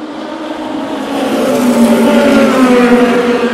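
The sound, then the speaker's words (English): Racing engines drone steadily, their pitch climbing and shifting as cars pass on the track, including the Proton Mustang, the number 2 Cadillac, the number 93 Peugeot, an idling Lamborghini and two LMP2 cars, with a dense, continuous roar and no voices. “The number 93 Peugeot is still running. The idling Lamborghini. Two LMP2 cars.”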